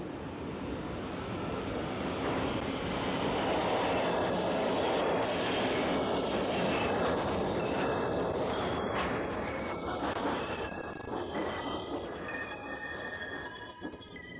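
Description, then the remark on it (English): A subway train rolls along the rails with a steady, loud rumble that fills the whole stretch, with thin metallic squeals rising in the second half as it continues past. “Welcome to the subway.”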